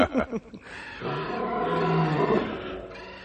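A tiger, Shere Khan, roars: a few short rumbling grunts, then one long, loud, throaty roar that swells and holds for about two seconds before trailing off.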